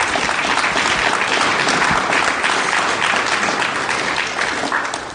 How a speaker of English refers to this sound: And applause again to my sister.